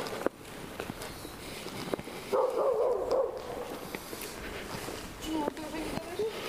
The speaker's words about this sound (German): Das hier so schwer atmet, ist übrigens ein Hundevieh.